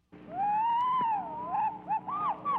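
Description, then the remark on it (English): A phoebe's song: one long, clear whistled note that rises and dips, then a quick run of short, bright sliding notes. Loud, with no talking. “And this means, of course, that the same goes for the Phoebe”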